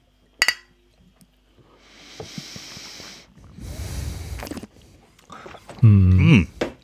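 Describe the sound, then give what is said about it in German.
Glasses of elderflower lemonade clink once in a toast, a bright, ringing tap near the start, followed by breathy sniffing and rustling noise and a short voiced sound at the end. “Ja, Prost.”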